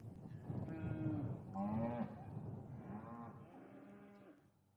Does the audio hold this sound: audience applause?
no